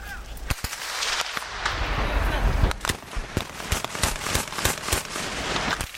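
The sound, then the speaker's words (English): Sharp gunshots from fighting between Sudanese forces and rebels on the border between Sudan and South Sudan, in the Blue Nile and Nuba Mountains, crack out in an irregular, rapid series throughout, some in quick clusters, over a rough, noisy outdoor background with no clear talking. “On the border between Sudan and South Sudan, the citizens of the Blue Nile and Nuba Mountains live with the sound of warfare, gunfire between Sudanese forces and rebels who would prefer to be part of South Sudan.”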